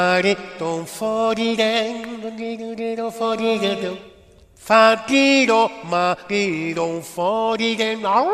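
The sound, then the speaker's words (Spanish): A dog howls loudly in long, wavering, pitch-sliding cries, pausing briefly midway before resuming with rising and falling tones. “Hombre, ahí ha ladrado. Ah, vale, no ha ladrado, ha aullado, ya.”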